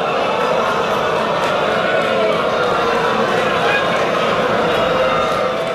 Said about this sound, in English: 14 seconds of booing. There had been applause. There was definitely applause.